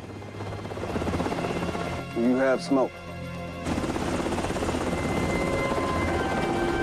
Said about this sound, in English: The smoke begins to swirl up from the grenades as two helicopters cruise high above the jungle canopy.